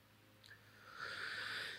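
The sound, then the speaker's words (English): A single drawn-out, airy, loud slurp of someone sipping water, preceded by a faint short click, with no talking. “First, I must loudly sip some water.”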